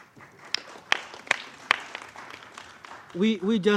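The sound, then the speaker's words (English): A handful of sharp, evenly spaced claps ring out at moderate volume, a brief, thin round of applause at the 12th session of the UN Permanent Forum, acknowledging its leadership, before a voice begins speaking near the end. “Yes, I think we need to applaud that.”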